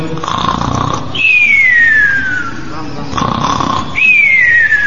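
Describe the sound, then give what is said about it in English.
Prabhupada imitates snoring on a tape, twice: a rough, rattling inhale followed by a long descending whistle on the exhale, repeated in a slow rhythm with no talking. “So I'm remembering Prabhupada imitating snoring.”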